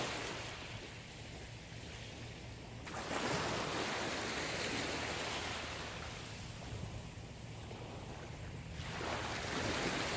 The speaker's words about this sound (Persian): چند دقیقه ای رو کنار دریا باش و در آرامش کامل از این دریای زیبا لذت ببر